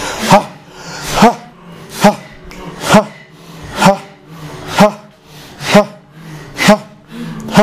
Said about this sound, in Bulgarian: От за сега дремещите зони в мозък започват да се събуждат с това кундалини дишане.